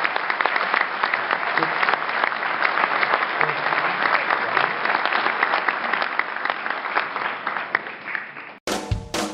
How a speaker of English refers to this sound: So would you all, with your applause, say thank you to these remarkable panelists?